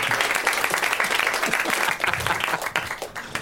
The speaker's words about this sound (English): So let's have one last round of applause, because they're all dying,